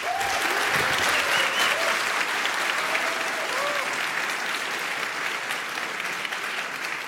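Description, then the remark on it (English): Steady audience applause welcoming two EPFL researchers before their talk on binary similarity and machine learning, a dense wash of many hands clapping at a constant loud level for several seconds, with a few faint cheers or whoops rising above it. “Please give them a warm welcome. Applause.”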